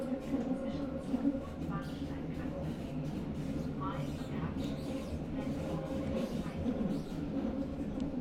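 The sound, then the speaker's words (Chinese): Steady, droning rumble of a subway car in motion, a continuous low hum and rattle that never lets up, with faint, indistinct voices mixed into the background. “你那边地铁挤吗？我还坐着呢。”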